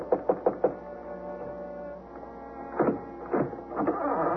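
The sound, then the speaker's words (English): Four quick, evenly spaced knocks rap on the wooden front door of an adobe ranch house by the Magdalena Mountains, followed by a low droning hum and a few heavier thuds and rattles a moment later. “I left my horse in the hay barn and went over to knock at the front door.”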